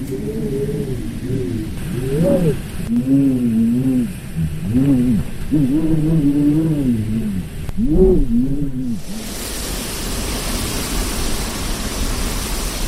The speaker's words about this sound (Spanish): Esto último no es llover, ¿eh? Es el viento meneando los árboles.